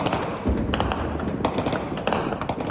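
Scattered gunshots crack irregularly across Goma, a large city in the Democratic Republic of Congo, during conflict involving the Congolese army, each sharp report trailing off in echo over a steady rumble of background noise, with no talking.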